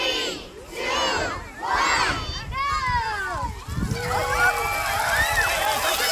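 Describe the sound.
A crowd of children shouts and shrieks excitedly in loud overlapping bursts, voices rising and falling as they rush onto a splash pad in Elk Lake Park in Phillips, with faint splashing water underneath.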